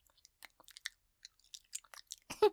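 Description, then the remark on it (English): Wet saliva mouth sounds: a quiet, irregular run of sticky clicks and smacks, closing with a louder, fuller smack that carries a brief voiced tone. No one speaks. “Why is there so much saliva in my mouth? Can you hear that?”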